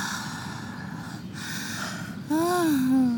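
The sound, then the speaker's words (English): A man's breathy gasp: a long, airy intake of breath followed by a short voiced catch in the throat whose pitch rises and then falls, fairly loud. “Oh, I love it when, like, guys gasp and, like...”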